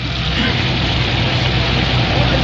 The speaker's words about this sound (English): Mm-mm. I can really hear that grease sizzling and popping.